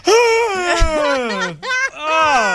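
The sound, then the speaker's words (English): A person lets out an exaggerated, loud yawn, a long drawn-out moaning tone that slides downward in pitch, breaks briefly, then stretches out again. “And I'll even yawn like with a verbose yawn.”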